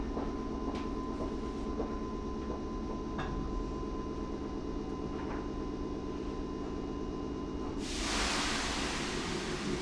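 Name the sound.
express train running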